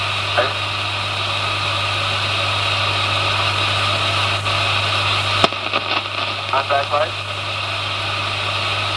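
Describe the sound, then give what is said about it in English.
A steady, droning engine idles with a constant hum just after touchdown at Tranquility Base, then its tone abruptly drops about halfway through as the engine is stopped. Brief radio-style voices come in over it. “Okay, engine stop.”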